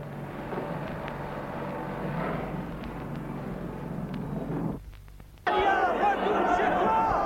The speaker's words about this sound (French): La pièce a à peine commencé. Et l'on entend la foule, les sifflets, les cris. Les comédiens ne peuvent s'exprimer. Ils attendent que ça passe.